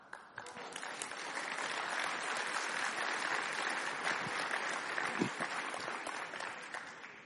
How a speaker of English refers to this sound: And let's have another round of applause for that fantastic dance troupe.